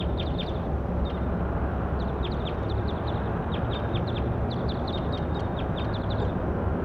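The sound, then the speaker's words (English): A bird calls repeatedly with short, high-pitched chirps in quick, uneven bursts, ringing out over a steady, loud wash of low background noise. No one speaks. “I'll point to A2 again, as long as he's calling.”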